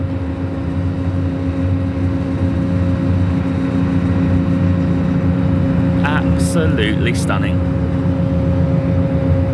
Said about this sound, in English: Welcome to Denman Island. We're on the ferry. This is a beautiful ferry crossing. It takes about 10 minutes and the water is so calm.